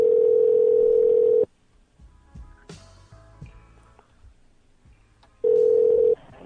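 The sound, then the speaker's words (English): A steady telephone tone hums loudly as a call is patched through to a supervisor's office, cuts off into a stretch of faint clicks, clunks and line noise, then the same steady tone returns for about a second before stopping. “I just gotta connect it to his office. Oh, there it goes. I'm patching the call through, sir, right now.”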